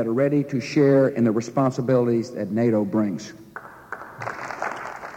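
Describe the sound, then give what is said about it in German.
A man speaks, then the German Bundestag breaks into dense, steady applause from many people for US President George Bush, filling the last couple of seconds. “Applaus gestern im Deutschen Bundestag für den US-amerikanischen Präsidenten George Bush.”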